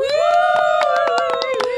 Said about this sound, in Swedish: Ja, jag står här vid denna bryggorna vid Liljeholmskajen tillsammans med mina barnmorskor. Men hörni, jubel!